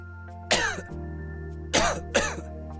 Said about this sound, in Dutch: Keelpijn, droge hoest, Activox verzacht de keel en helpt de irritatie te kalmeren vanaf de eerste prikkel.